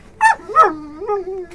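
A dog gives two quick, high yipping barks, then drifts into a drawn-out whining howl that wavers and fades, with no one talking.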